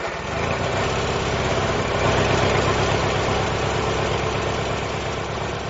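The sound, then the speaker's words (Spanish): A heavy diesel tractor engine starts and runs at a steady idle with a low, rhythmic chugging throb, loud and continuous throughout with no voices. “Ahí está arrancando el tractor.”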